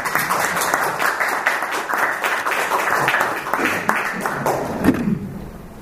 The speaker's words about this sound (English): a round of applause, isn't it?